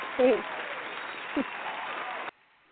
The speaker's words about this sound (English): So I want to go ahead and give you a round of applause for coming on the show today with us. We appreciate you.